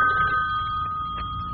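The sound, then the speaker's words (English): A telephone rings with a steady, sustained electronic tone, clear, holding for the full moment with a faint low rumble beneath. “I'm not going to answer it. Well, I'm not going to answer it.”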